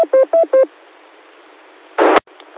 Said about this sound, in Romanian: Oricum, la cât de tare bipă e stația asta, nici nu cred că mai are rost să zic pauză, că vă prindeți voi ce se întâmplă.